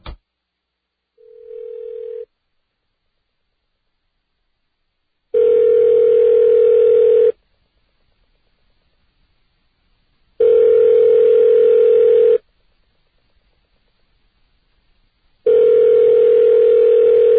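A telephone ringing tone: a steady, low-pitched electronic buzz sounding in loud two-second bursts with pauses of silence between, after one shorter opening burst. No one speaks.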